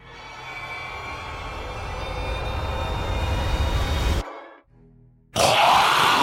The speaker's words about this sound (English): All she could hear was the beating of her heart and the sound of the train racing on the tracks.